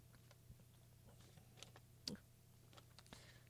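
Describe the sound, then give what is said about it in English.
Crisp crinkles and ticks of paper being handled, scattered irregularly over a low steady hum, with one sharper crackle partway through and no voices. “Boy, that paper's loud.”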